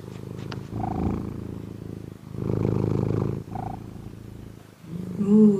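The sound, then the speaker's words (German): A male cat purrs in steady, rumbling waves, each breath cycle swelling and fading in a continuous low vibration, with a brief higher tone near the end. “Schnur-ASMR.”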